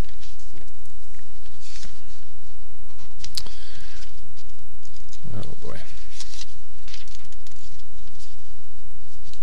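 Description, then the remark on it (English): Scratchy rustling of Bible pages being turned to Exodus 20 by someone with a bandaged, sliced thumb, with a few sharper flips in the middle among softer shuffling and handling noise, over a faint background hum and murmur. “Having a little hard time with my pages.”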